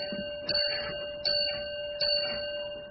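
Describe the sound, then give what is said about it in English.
A railway signal box block bell strikes three times at an even, measured pace, each bright metallic ding ringing on over a steady background hum, clear with no talking. “If it's non-stop, send four bells, you.”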